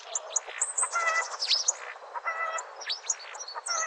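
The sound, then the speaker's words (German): A starling sings a busy, unbroken stream of whistles, squeaky chirps and rasping notes, mixing in imitations of other birds' calls. It is clear, with no talking. “Stare können zum Beispiel die Rufe von Bussarden oder Spechten nachahmen oder auch mal ein Huhn.”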